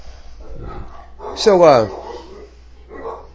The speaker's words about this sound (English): While we're waiting, dogs are going to eat somebody out there. Yeah, somebody's going to get eaten out there.